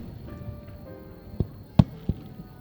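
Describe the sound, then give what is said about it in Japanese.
Fireworks burst, three or four muffled booms arriving at irregular intervals over a low, steady background rumble, with no voices present. “スバル、先輩を花火が見やすいところまでは連れて行けなかったけど、こうやって一緒に見れてすっごい嬉しいっす”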